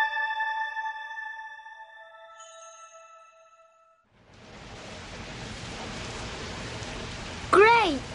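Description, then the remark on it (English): A short ringing musical phrase fades out, then steady rain starts as an even, moderately loud hiss. A brief warbling electronic tone rises over it near the end. “Oh no, it's raining.”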